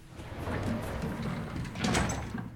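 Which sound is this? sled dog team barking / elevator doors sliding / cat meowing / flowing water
elevator doors sliding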